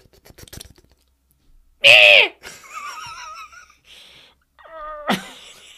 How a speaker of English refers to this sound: Fucking birds.